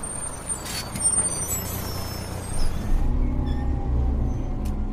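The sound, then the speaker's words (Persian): A city bus rumbles with a deep engine drone, and its air brakes let out a sharp hiss before the low idle swells louder. “شیر فهمم کردن که باید با اتوبوس واحد برم.”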